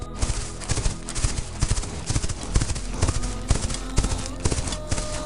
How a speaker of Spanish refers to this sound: Percibe la presencia majestuosa y serena de los caballos, que se mueven con gracia en la distancia.